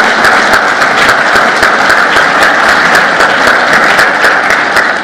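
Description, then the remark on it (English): Sustained, dense applause from an audience, a steady wash of many hands clapping at an even loudness throughout, with no talking over it. “Hold the applause.”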